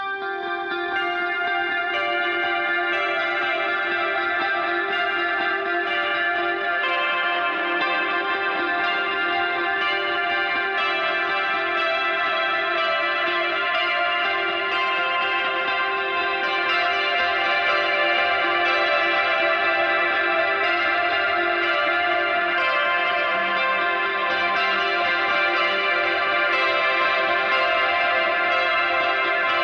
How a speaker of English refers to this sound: I think, just two of the guitars playing off one another in the verse 2 section. So kind of hear how the interplay works.